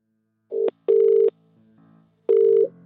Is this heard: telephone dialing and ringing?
yes